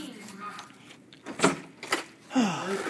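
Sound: key in lock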